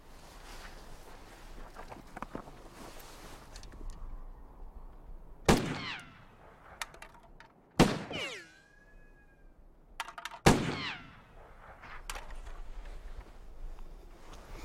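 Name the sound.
gunshots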